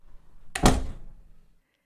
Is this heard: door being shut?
yes